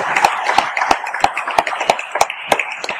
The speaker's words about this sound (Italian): che accogliamo di nuovo con un bello applauso e ringraziamo per il suo contributo.